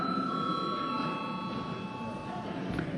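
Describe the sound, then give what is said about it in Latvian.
A parliament voting bell in a sitting of the Saeima, rung to call a vote, rings without a break for about three seconds, a steady, bright electric tone holding one pitch, with a low murmur of voices underneath. “Jā, lūdzu, tātad balsosim par šo jautājumu izlemšanu, lūdzu zvanu.”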